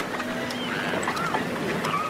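A few gull cries, recorded in Germany by Pardon, drift over steady harbour noise, with water lapping and a low engine-like rumble throughout.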